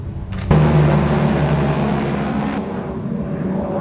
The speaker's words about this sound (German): Und dann hört man genau immer das Sirren dieser Propeller